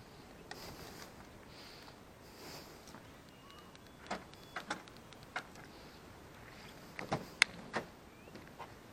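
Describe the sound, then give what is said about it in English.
Several faint mechanical clicks and clunks, like a car door being unlatched and opened as a person gets back in, come through a steady background hum. The sharpest knocks bunch together near the end. “And that opens the door again.”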